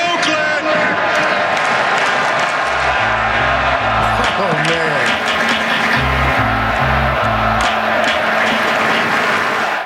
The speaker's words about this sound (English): I think we all should pay homage to this amazing stadium that we've had the privilege and pleasure of enjoying for 57 years. And I ask you for one more time to start the greatest cheer in baseball. Let's go!